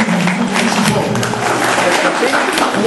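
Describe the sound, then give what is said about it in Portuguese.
Scattered, half-hearted applause from a small group, a thin steady patter of claps lasting a few seconds, with a faint murmur of voices underneath. “Essas palmas foram muito fracas porque o troço está muito esquisito.”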